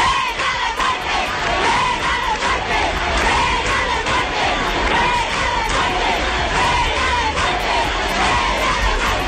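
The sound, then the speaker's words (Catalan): An angry crowd gathered in front of a police station shouts together, calling for a woman's death, in a loud, unbroken roar of many raised voices, with rhythmic surges like repeated chanted cries running through the whole stretch. “tota aquesta gent molt enfadada davant de comissaria s'ajunta i criden això.”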